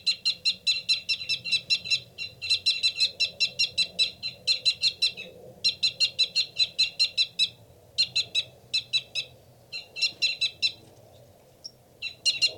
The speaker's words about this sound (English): That loud, rapid one is the male. A fight call from the male.